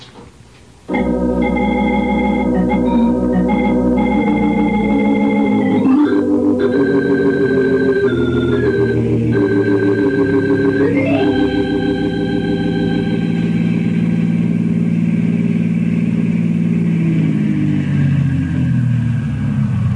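car driving off

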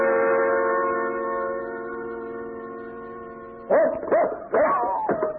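dog barking and yipping

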